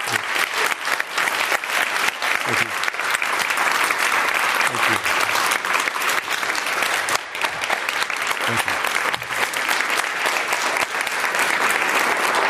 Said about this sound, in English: And ladies and gentlemen, let's give him a big round of applause.